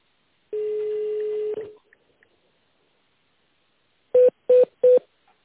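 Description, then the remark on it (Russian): A steady tone lasting about a second, then after a pause three short, evenly spaced touch-tone beeps as an internal extension number is entered on a phone keypad during a call to the West Siberian air communications agency, clear. “Если вы знаете внутренний номер сотрудника, введите его, либо дождитесь ответа оператора.”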